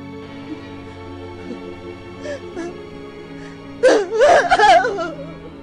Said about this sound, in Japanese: おばあちゃんは声を上げてワンワン泣いてた。私も泣いてた。